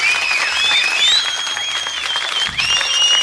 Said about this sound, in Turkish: Bence alkışlayalım. Alkışlayalım.